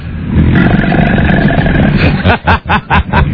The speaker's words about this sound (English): The mouse did roar. Made that sound? Not quite that loud. It made this sound.